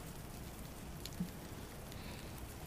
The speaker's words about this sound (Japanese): ねえ、雨足が弱まるまで一緒に雨宿りしても構わない？